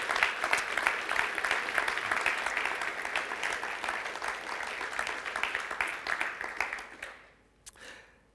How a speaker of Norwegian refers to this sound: Og dere, alle dere som er i musikk og sang og multimedia og lydteknikk og sånt, ta til dere nå en stor takk fra oss når vi gir dere en skikkelig applaus nå. Tusen takk!